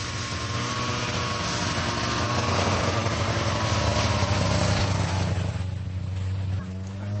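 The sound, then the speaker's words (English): A mountain rescue service snow scooter engine idles in a steady, throbbing low drone with a rough, noisy edge that eases slightly near the end while the motor keeps running, after bringing down an injured skier on a stretcher on its back, on a sunny winter afternoon on a mountainside. “And the mountain rescue service has just brought down an injured skier on a stretcher on the back of the scooter.”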